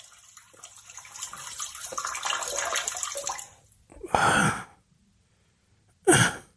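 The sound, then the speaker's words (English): A sound effect of a steady stream of water splashing and hissing for a few seconds, like someone urinating, then stopping, followed by two short, breathy bursts that sound like sighs of relief. “where did you get that sound effect from”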